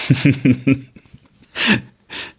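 Four quick giggly vocal bursts, then a loud, close, breathy deep inhale, followed after a short pause by another softer rush of breath.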